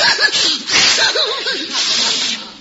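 A lion sneezes from sawdust in a quick run of loud, breathy snorts and hissing bursts with rough, throaty tones, filling the whole couple of seconds with no talking.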